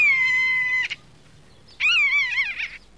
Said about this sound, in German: Ein Mäusebussard dreht seine Runden über den steil abfallenden Felsen.